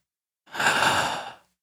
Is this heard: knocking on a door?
no